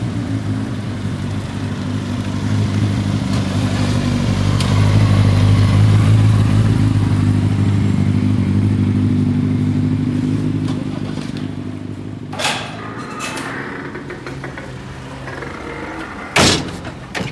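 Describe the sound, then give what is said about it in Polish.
A car engine rumbles, swelling and then fading as the vehicle passes, followed by a few sharp clunks like doors shutting against a low outdoor background, as residents arrive by car at the town office in Skarszewy, Poland, on a hot summer day. “Większość przyjeżdża samochodami.”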